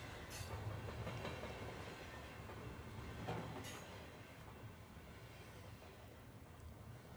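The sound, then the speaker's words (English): A train rolls steadily along the rails, its continuous heavy rumble broken by occasional sharp clickety-clack beats from the wheels, with no voices present. “Jump on this train. Let's ride.”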